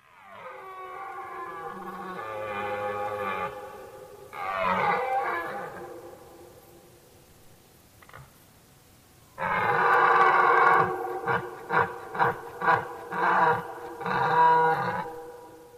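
A red deer stag roars during the rut: long, deep, throaty bellows, then after a pause a loud roar breaking into a series of rhythmic grunting pulses, clear with no talking.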